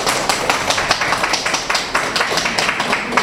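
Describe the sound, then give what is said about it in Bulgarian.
An audience at an art exhibition in Dimitrovgrad breaks into applause for the town's mayor, many hands clapping together in a steady, fairly loud patter for a few seconds, with no voices rising above it. “Мисля, че аплодисментите трябва да са за вас, защото това, което виждаме, е наистина уникално.”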